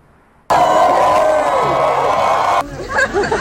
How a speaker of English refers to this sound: Listen to what Johnny Depp follows this up with, to the cheers of the crowd.